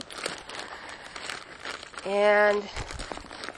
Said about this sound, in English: And I'm taking my documentation plastic bag, leaving everything in there because there are CDs in there. I don't want them rolling around or sliding around. And I'm putting everything in here.